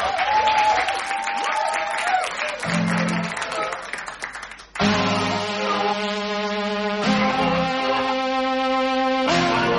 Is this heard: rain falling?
no